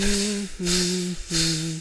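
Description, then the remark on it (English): Air hisses out of a punctured inflatable floating fish in three repeated bursts, each carrying a steady, low squealing whine and a broad rushing hiss, separated by brief gaps, with no talking. “It got a hole, the air came out.”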